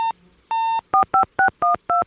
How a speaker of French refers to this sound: Et sur son téléphone satellite, elle appelle